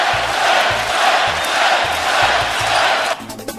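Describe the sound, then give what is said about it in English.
A large arena crowd chants "Klay" for Golden State Warriors player Klay Thompson after he scored 60 points against the Indiana Pacers on December 5, 2016, in a steady two-beat rhythm, loud and sustained, with low thumping pulses underneath, before the roar cuts off abruptly near the end. “And the crowd is chanting Clay.”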